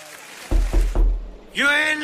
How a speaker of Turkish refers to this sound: Kapı vurma sesiyle, niyeyse kapı vurma sesiyle giriyoruz abi. İşte bak böyle.